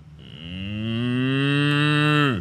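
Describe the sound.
A person gives a long, loud, drawn-out moo in imitation of a cow, starting with a rising pitch and holding a steady tone for over two seconds before cutting off, with no other voices.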